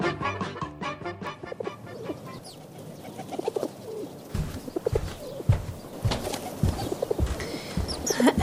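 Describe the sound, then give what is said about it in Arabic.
Pigeons cooing behind a window in soft, repeated throaty calls, several birds, with occasional rustles and faint wing flutters in the background. “انظر يا أبي، انظر هناك طير خلف النافذة. اسم هذا الطائر حمامة.”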